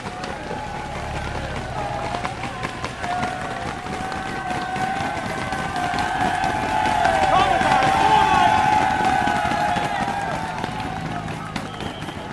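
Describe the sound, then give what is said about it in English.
A dense roar of a roadside crowd cheering wildly at a bike race, steady throughout and swelling louder in the middle before easing slightly, with scattered clapping and indistinct voices mixed into the din. “The crowd's going wild here.”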